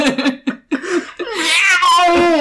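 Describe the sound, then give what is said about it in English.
A woman vocally imitates a cat, practising her meow, starting with short choppy yelps and sliding into a long, loud, wavering meow that rises and falls in pitch, clear. “And she practices her meowching.”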